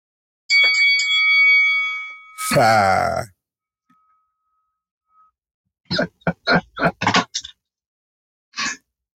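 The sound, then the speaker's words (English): A final bell rings out with bright, sustained tones for about two seconds, followed by a brief grunting vocal sound and, after a pause, a quick run of sharp, clanging strikes. “Final bell.”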